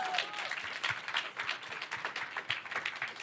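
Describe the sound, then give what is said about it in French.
Steady applause from an audience for Meredith Grey of Grey's Anatomy, many hands clapping in a dense, continuous patter with a few sharper claps standing out, sustained for a few seconds. “Applaudissements pour Meredith Grey.”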